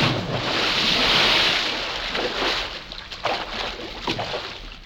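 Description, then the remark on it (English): A big watery splash from a giant diving into water roars up loud, then settles into churning, sloshing water with a few smaller splashes trailing off. No voices. “How about a dive, Paul?”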